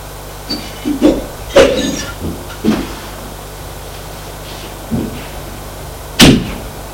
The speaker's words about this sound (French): Il pousse la porte.